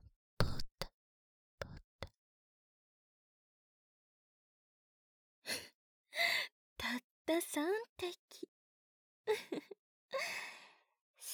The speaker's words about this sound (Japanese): 息切れですか？